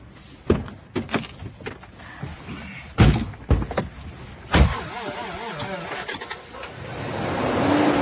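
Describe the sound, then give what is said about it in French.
Several solid car door thumps and clunks land in quick succession, then an engine rumbles to life and the steady drone builds as the car pulls away. “On part en voiture.”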